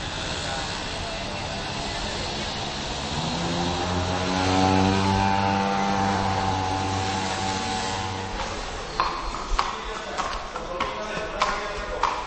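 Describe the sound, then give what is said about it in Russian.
A motor scooter engine whines past on a market square during trading, its pitch bending as it swells and then fades away, followed by a few sharp clattering knocks. “Голоса зазывал нарушают лишь вездесущие мотороллеры.”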